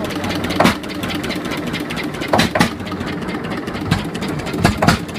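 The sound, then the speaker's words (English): A small boat engine on a river, hand-cranked to start, idles with a steady low chugging rumble, broken by several sharp sputtering bursts as it catches and revs briefly, with no voices. “He was hand cranking the engine to get her started.”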